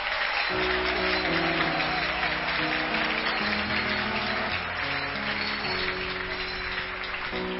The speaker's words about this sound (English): Oh, let's clap our hands for Jesus.